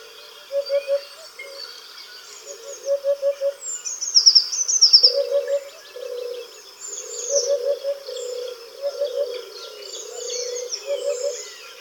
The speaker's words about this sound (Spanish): Y desde cualquier esquina oiremos las notas aflautadas, como de madera, de las abubillas.